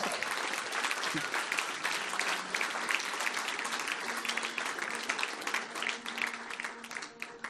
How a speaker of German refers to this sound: Hey, gebt unserem Worship-Team dann nochmal einen Applaus.